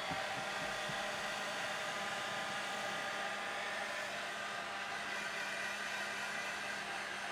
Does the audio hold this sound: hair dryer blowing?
yes